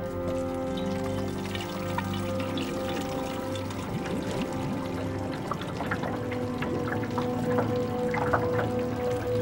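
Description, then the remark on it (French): A man fills his can at a water fountain: a continuous rushing splash with a resonant, filling tone and small scattered drips and clinks, holding an even level for the whole stretch with no voices. “Il se dirige vers la fontaine d'eau et pousse un chariot. Une femme gît sur le sol. L'homme remplit son bidon.”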